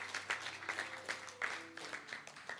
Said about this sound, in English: Let's just celebrate this. Let's give him a hand. Let's give him a clap. Thank you, Jesus.